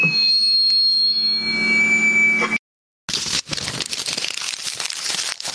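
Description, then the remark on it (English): Paper crumpling, a dense, irregular crackle that fills the last few seconds. Before it comes a steady electronic hum with high tones, then a brief silence. “Ah, there's the crumple. Everybody loves the crumple.”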